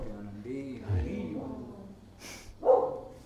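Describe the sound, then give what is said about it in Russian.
The dog Milo, who rarely barks, lets out a couple of short barks, the last one sharp and loud, while a person's voice murmurs in the background. “Это Майло лает.”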